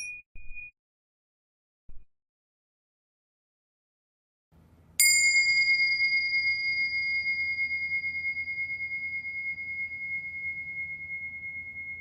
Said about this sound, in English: I would invite you and I and our listeners to just, in a relaxed, open way, let go of any of our questions and concerns and anxieties, and just for a few breaths, returning to this present moment through the sound of this bell.